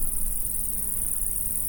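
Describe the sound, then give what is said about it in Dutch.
A steady, high-pitched cricket trill from tall flowering grass about 1.5 meters high under blazing sun runs without pause over a faint low rumble, fairly loud, with no voices present. “Nee, wat we horen trouwens, krekels, dat geluid maken ze met hun vleugels, geloof ik.”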